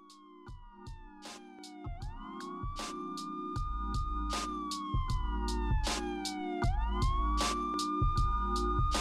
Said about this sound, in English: Now, here come the sirens.